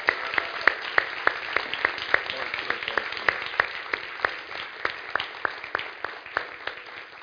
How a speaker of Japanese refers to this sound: なので、エディ・ハロック先生を私たち迎えたいなと思いますので、 so、let's welcome Pastor Eddie. 皆さん、大きな大きな拍手で迎えましょう。